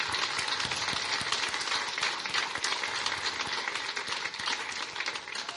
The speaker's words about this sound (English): Could I have the people who have been here from 5 to 10 years, would you please stand? 5 to 10 years. Can we get a round of applause and noisemakers?